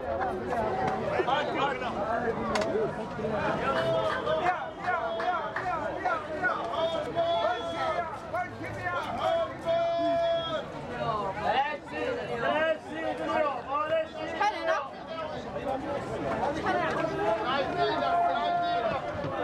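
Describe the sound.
A busy outdoor street scene in Essaouira, Morocco, with overlapping voices chattering and calling out, a steady crowd hubbub, and scattered clatter and movement filling the background continuously.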